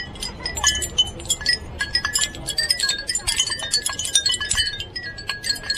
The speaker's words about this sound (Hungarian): Megkérhetjük, hogy a kis harangokat megszólaltassa nekünk? Meg lehet, egy visszafogott hangjuk van, nem annyira zavaró.